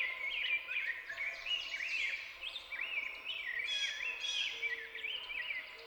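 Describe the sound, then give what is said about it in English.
Three rose-breasted grosbeaks sing back and forth at their territorial boundaries in continuous, rich warbling phrases that rise and fall, overlapping as if answering one another, clear over a faint outdoor background. “Moving on, I soon home in on three rose-breasted grosbeaks singing back and forth at their territorial boundaries.”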